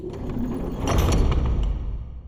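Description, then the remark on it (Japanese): A heavy door grinds and rumbles as its mechanism slides shut, cutting off the way back; a loud, continuous scraping with low thuds that builds and then settles, with no voices over it. “あっ、扉が引き返す道なくなっちゃいましたね。”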